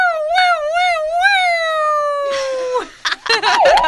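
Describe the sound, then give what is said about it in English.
A person vocally imitates a police siren, a loud warbling wail that rises and falls a few times, then slides down and breaks off into a short burst of laughter or noisy vocal sounds. “let's hear your best police siren.”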